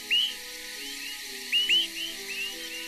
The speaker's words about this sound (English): Nocturnal migrants of the same species call as they fly, enabling flockmates to stick together. Many of these flight calls are distinctive, enabling those with an excellent ear or good recording gear to identify them as they pass.